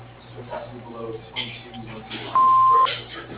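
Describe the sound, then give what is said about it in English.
The Prescott Company's answering machine gives a single flat electronic beep for about half a second, loud, after a stretch of muffled talking over a low hum. “There is no one here at this time, but if you leave your name, number, and a brief message after the beep, someone will return your call as soon as possible.”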